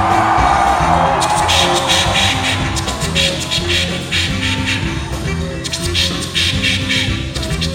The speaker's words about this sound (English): And everybody from the front to the back, scream!